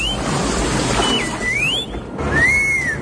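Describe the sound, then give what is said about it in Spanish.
A few separate high whistled phrases, each gliding up and down in pitch, sound over a steady wash of background noise in a bar, whistled in reply to an order for a coffee. No one speaks. “Oye, no sé si te silban o te hablan.”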